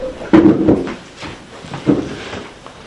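A door being closed: a few muffled knocks and a latch-like clunk spread over a couple of seconds, moderately loud against a quiet background, with no one talking.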